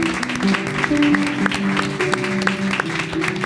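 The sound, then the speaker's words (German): An audience applauds the authors of the texts at a reading, steadily for several seconds, a dense, continuous patter of many hands clapping at once, with some voices humming underneath the noise. “Applaus auch.”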